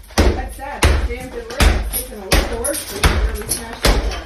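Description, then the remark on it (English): A sledgehammer slams into bathroom tile again and again, about six heavy, booming blows at a steady pace, loud, with voices murmuring underneath. “He's beating the tile in the bathroom with a sledgehammer.”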